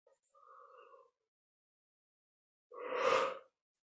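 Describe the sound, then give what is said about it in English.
A yawn: a soft, drawn-out voiced tone, a brief pause, then a louder, breathy rush of air as the yawn finishes. No one speaks. “My yawning, which I do a lot on these calls, is not about fatigue, it's about energy moving through.”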